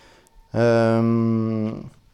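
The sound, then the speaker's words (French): A single loud, sustained electric guitar note, a bend at the climax of a solo, rings steadily for about a second, drenched in reverb, then cuts off and leaves a short fading tail. No one speaks. “Là, je balance la reverb pour donner de l'ampleur.”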